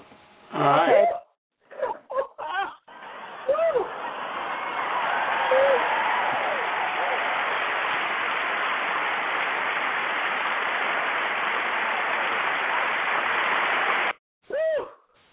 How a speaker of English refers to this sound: Oh, that was a long clap. Wow. I have to get off the floor for that one.